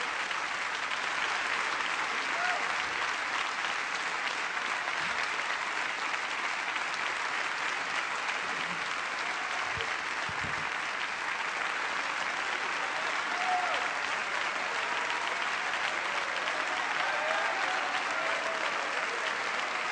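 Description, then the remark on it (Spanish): An audience at a religious conference applauds God loudly and steadily, a dense wash of clapping from many hands that holds at full strength throughout, with faint voices underneath. “Fuerte, fuerte, fuerte, fuerte el aplauso.”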